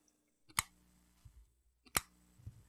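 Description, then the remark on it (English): A flip phone snaps shut twice, each a sharp, bright plastic clack followed by a soft low thump, with a pause of over a second between them and no talking. “For all you young people, is the sound of a flip phone.”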